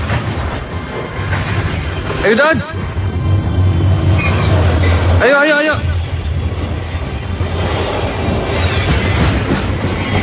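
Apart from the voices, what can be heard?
moving train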